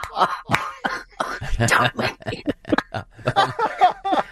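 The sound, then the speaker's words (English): Someone hawks phlegm and clears their throat in a series of harsh, rasping bursts, fairly loud, with no talking in between. “I will even hawk two on it if you want it.”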